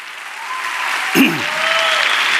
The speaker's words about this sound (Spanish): Sí, este aplauso y este premio absolutamente son para Marisa.